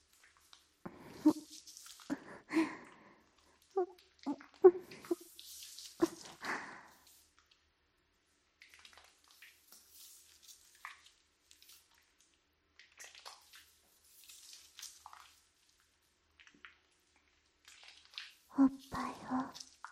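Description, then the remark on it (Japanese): Soft, wet squishing of soapy lather being worked over skin during washing, in intermittent bursts with quieter stretches of faint rubbing, while a voice murmurs at the start and end. “せっかくつけた泡が流れ落ちちゃうよ。”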